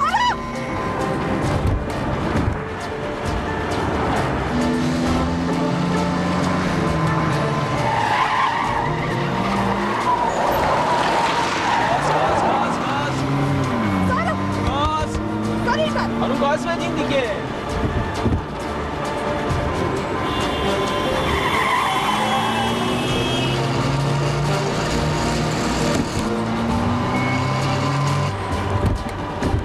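A car brakes hard, its tires skidding and screeching loudly, the squeals rising and falling in long repeated bursts over a steady engine roar, with no one speaking.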